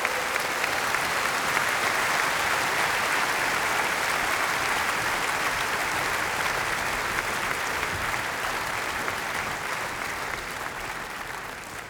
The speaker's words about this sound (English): Give them an enormous applause, the ladies of the Johann Strauss Orchestra Choir.